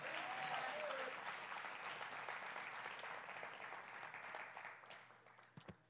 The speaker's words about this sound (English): Would you clap your hands and shout amen?